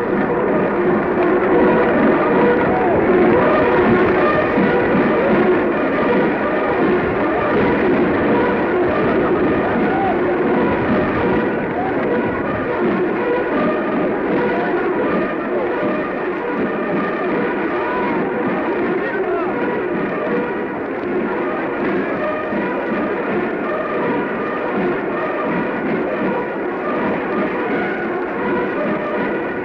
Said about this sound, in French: Vous entendez les acclamations qui saluent non seulement le chef de l'État, mais aussi le chef du gouvernement, le président Édouard Daladier.